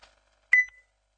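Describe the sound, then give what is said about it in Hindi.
A short electronic beep as a phone call disconnects by itself sounds once, clear, with a sharp onset and a quick tone fading out, followed by a faint click and then silence. “call भी cut गई खुद, कॉलों का बहुत ज्यादा लोड है,”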